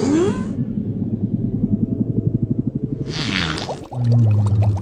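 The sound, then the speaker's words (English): An imagined reconstruction of what a whale fart may have sounded like: a low, wet, buzzing rumble with rapid bubbly pulses and breathy whooshing bursts, ending on a deep, sustained droning blat. “Do you really look up whale farts on the internet?”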